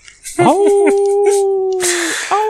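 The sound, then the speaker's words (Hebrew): A long, sustained canine howl, loud, holding a steady wavering tone with a few yipping breaks at the start and a rising cry at the end. “ויכול להיות שזה הכלב שהתקרב, שזה זאב שהתקרב למפעל קצת יותר מדי, אבל אנחנו לא יודעים.”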